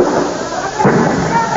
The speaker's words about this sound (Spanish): Disparos de gases lacrimógenos.